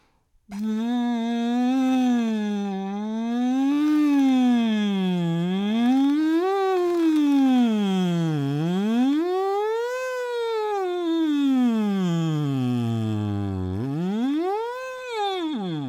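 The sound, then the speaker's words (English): A voice hums through a straw in continuous siren-like glides as a vocal exercise to expand range, sweeping smoothly up and down in pitch, with the sweeps growing wider over time and several breaths between phrases. “But now we want to use the straw to get some siren sounds happening.”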